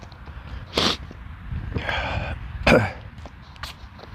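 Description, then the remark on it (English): Abrupt nasal sniffs and snorts from a person's nose with an allergic reaction in the morning: two sharp bursts with a longer, rougher snort between them, then a quick faint sniff near the end, with no talking. “There's going to be a lot of sniffing and snorting this morning, I'm afraid.”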